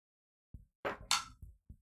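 Hard plastic dice clatter into a tray: a soft opening tap, then two bright rattling clanks, then two dull knocks as they settle. No one speaks.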